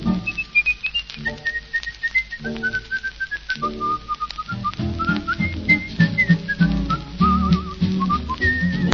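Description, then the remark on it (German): A person whistles a lively, wandering melody, clear and up close, over a steady instrumental accompaniment that swells fuller in the second half. “Doch erreicht in jedem Fall man durchs Pfeifen noch viel mehr.”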